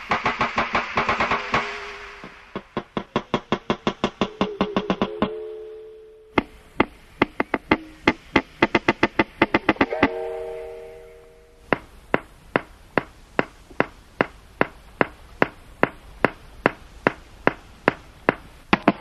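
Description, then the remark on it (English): A wild walrus underwater in the Canadian High Arctic makes breeding sounds: rapid knocks in fast rhythmic trains, interrupted by ringing, bell-like tones, then a slower, steady series of sharp knocks. Clear and resonant, with no voices. “but this is a wild walrus, recorded in the Canadian High Arctic, underwater.”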